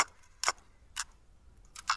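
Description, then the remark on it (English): A few sharp plastic clicks and short ratcheting rasps, irregularly spaced, as a cassette tape is wound by turning a pencil in its spool, with near silence between. “Yes, it's rolling up the cassette tape with a pencil.”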